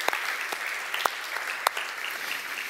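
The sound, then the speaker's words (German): An audience in a hall applauds the sound engineer, a steady, dense wash of many hands clapping with a few sharper claps standing out, moderately loud and continuous throughout. “Das ist einmal ein kleiner Applaus wert”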